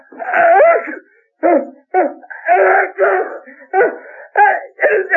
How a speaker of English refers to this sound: Camrose stared at the envelope with a puzzled expression, and then was suddenly seized by a most ferocious attack of sneezing.